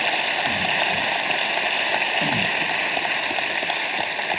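A steady wash of applause from an audience at Centerville saying hello to those joining from other locations, many hands clapping together in a dense, even hiss that holds at the same loudness from start to finish, with no voices.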